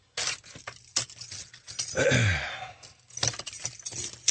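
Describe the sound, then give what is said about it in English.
A bunch of keys jangles and clinks in scattered bright metallic bursts, fairly loud, with a brief downward-swooping sound in the middle and no talking. “I just don't know where my keys are right now.”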